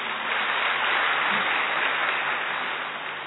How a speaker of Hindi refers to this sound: अच्छा, अच्छा लगा? तो अच्छा लगा तो फिर ताली तो बजाइए।